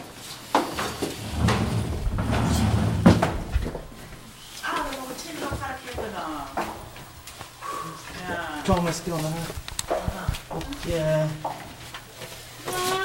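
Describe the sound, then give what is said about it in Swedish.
A woman opens a door with a low rumble and a few clicks and knocks of handling over the first few seconds, and then voices start talking. “Hon öppnar dörren. Och in går jag.”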